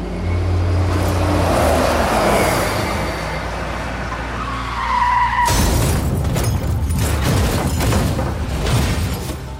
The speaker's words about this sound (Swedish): Det var tidigt på morgonen den 27 september 1986 som turnébussen kom med farande över krönet och fram på just den landsväg där jag befinner mig. Något händer. Bussen börjar kränga. Chauffören tappar kontrollen och kraschar ner i ett dike.